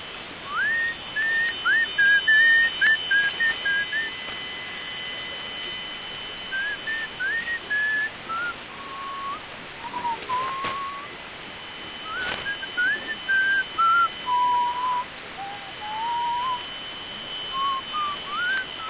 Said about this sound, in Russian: Давно я не свистел.